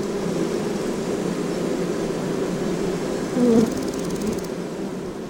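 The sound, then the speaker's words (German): A dense, steady buzzing hum of a bee swarm around a hive, from a hologram recreating a traditional beehive surrounded by a swarm of bees on a display board, continuous throughout with a brief louder tone near the end; no one speaks. “In der Mitte der Schautafel können Sie die szenische Nachbildung eines traditionellen Bienenstocks, umgeben von einem Bienenschwarm, als Hologramm sehen.”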